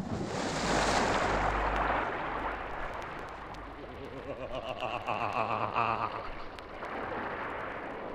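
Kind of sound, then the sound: nature, sea waves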